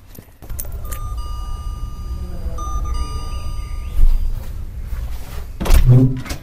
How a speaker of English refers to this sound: To find out what all the fuss is about, I stopped by a local swingers club and rang the bell to ask.